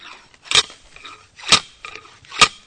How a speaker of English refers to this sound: They dig 12 holes per plot with a slide hammer core. That's a metal cylinder with a cutting tip on the edge and brass core sleeves inside.